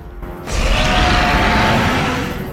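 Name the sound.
tyrannosaurus rex roar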